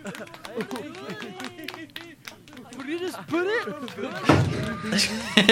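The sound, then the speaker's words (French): Steady rhythmic gospel-style handclapping runs through the whole stretch, sharp claps in a regular beat mixed with lively voices that grow louder and busier toward the end. “Des applaudissements gospel.”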